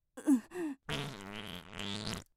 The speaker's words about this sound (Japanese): 匂うのはしょうがないでしょ、おならなんだから。